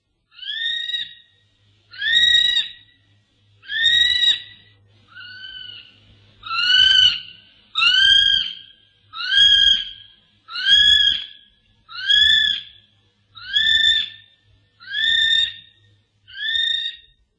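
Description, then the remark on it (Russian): A kiwi, a flightless bird found only in New Zealand, calling: a steady series of about a dozen shrill, rising whistles repeated at an even pace, loud, with no talking. “Киви встречается только в Новой Зеландии. У киви странный облик и повадки, не может летать, обладает не по птичьему тонким обонянием.”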